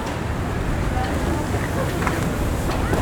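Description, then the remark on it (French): A light Canadian wind blows steadily across the microphone on Mont-Royal, a green, almost forested hill in the city. It is a continuous low rumbling rush with soft hiss above it, holding an even level from start to finish. “Un petit vent canadien passe entre vos oreilles.”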